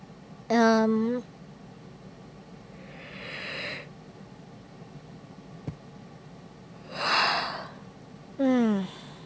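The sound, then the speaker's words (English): A person yawns: a voiced, falling groan, then long breathy drawn-in air, another airy breath, and a final sliding voiced sigh, fairly quiet with no talking. “That's as close to a normal yawn as mine will ever naturally get.”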